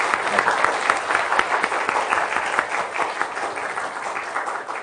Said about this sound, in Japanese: 皆さんね、このために準備をして、また一生懸命にパフォーマンスをしてくださって本当にありがとうございました。改めて拍手したいと思います。